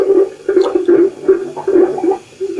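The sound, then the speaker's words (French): Wet, gurgling bursts of bubbles from a city sewer rise in quick irregular pulses, a low watery churning of heated gases escaping to the surface, loud with no voices. “Aboiement des bulles libérées.”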